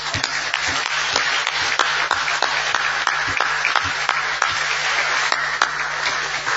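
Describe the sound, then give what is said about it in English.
An audience at a Codex Commission session applauds steadily to thank the chair, vice chairs and secretariat, a dense wash of many hands clapping at once with individual sharp claps standing out, sustained at an even, fairly loud level throughout with no talking. “I would like you to join me in giving them all a clap, because they really worked very hard.”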